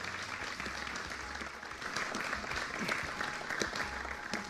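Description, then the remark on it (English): A crowd at a Michigan Agribusiness Association event applauds Marone at its site, many hands clapping in a dense, crackling patter that holds at a moderate level throughout, with no voices rising above it. “Let's give Marone actually a round of applause for all of that.”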